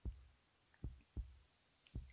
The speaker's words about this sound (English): Listen to my heartbeats.